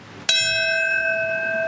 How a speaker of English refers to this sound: That sound was a bell in New York City to mark the moment the first plane hit the North Tower of the World Trade Center. It was the beginning of events around the country today marking the 20th anniversary of the 9/11 attacks.